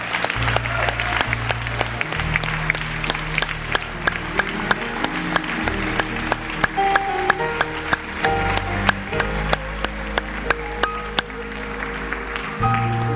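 An audience claps and shouts praise unto the Lord, loud over lively church music, with a deep, steady bass line and sharp, rhythmic hand claps running throughout.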